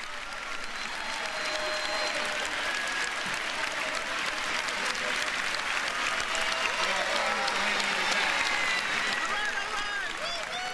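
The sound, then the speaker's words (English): A large crowd in the House chamber cheers and applauds steadily as the president arrives to address Congress: dense clapping mixed with whoops and shouts, staying loud and sustained for the whole stretch, with scattered voices rising through the ovation. “And obviously you hear the cheers there as the president comes to talk to Congress.”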